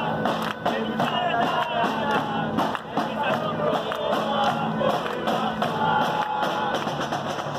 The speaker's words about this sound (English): A fervent crowd, made of workers, activists, and neighbors, stood in front of the building, clapping, hands in the air, jumping and chanting.